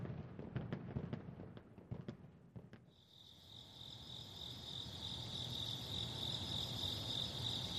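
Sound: crickets chirping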